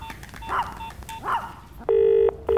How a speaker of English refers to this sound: I've called you on numerous occasions to complain about a persistently noisy dog. Is it amplified noise? Well, no, it's not, but it's antisocial, it's a problem, and I want you to do something about it.